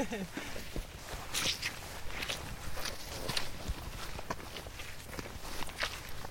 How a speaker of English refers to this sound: So we can start to hear the noise of the river, the sound of the river rippling away down in the bottom of the dell there. So the river's fast flowing here and going through a lot of rocks, so you can sort of see the rapids